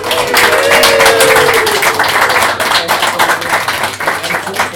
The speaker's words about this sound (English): We'll get another round of applause for everyone on the open mic.